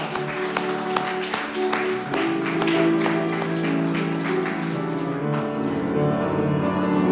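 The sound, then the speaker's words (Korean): An audience applauds steadily for several seconds to God's glory at a third-night evening church revival meeting, dense clapping with a few sharper accents, while sustained musical tones hum underneath and the applause thins slightly toward the end. “하나님의 영광에 박수하겠습니다.”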